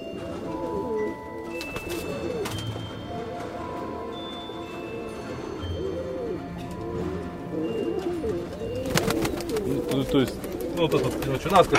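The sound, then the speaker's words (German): Several pigeons coo steadily in a pigeon loft whose door is reinforced with iron plates, in a prefab housing estate on the outskirts of Donetsk near the front line. Their low, rolling calls overlap throughout, with a burst of fluttering and scuffling noise near the end. “Die Tür dieses Taubenschlags ist mit Eisenplatten verstärkt.”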